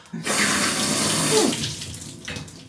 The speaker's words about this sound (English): All right, and then what I'll do is I'll either turn the shower on, or you could get a pitcher or something and fill it and rinse your bathtub and stuff.